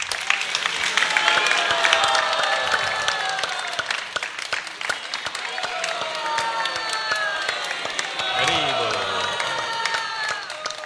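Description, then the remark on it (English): A crowd claps steadily for about ten seconds in honour of Bhaktivinoda Thakur, dense applause with scattered cheers and raised voices mixed in throughout. “So we should also applaud him.”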